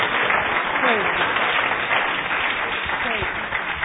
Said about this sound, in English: Let's give the Lord a clap of hands.